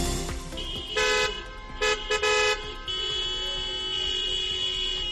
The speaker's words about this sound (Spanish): Estos son los pitidos de los taxistas abulenses que denuncian que para renovar el seguro de su coche las aseguradoras les han subido el precio un 400%. Han salido a la calle a preguntar.